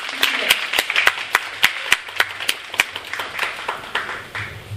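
A crowd breaks into applause, many hands clapping in a dense, steady patter with sharper individual claps standing out, sustained throughout at a fairly strong level with no voices over it.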